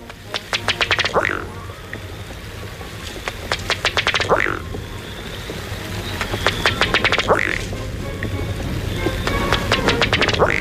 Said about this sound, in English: The ruddy duck is generally quiet, except at breeding time, when you'll hear this from the male.